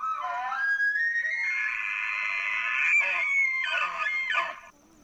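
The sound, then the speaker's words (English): An elk challenge bugle played from a mimic app on a phone: a reedy whistle climbs into a loud, sustained high-pitched scream, then breaks into several quick raspy grunting chuckles before cutting off. “There are apps you can download that pretty closely mimic the sound of real elk. Ready? Mm-hmm. Okay, so this is a challenge bugle.”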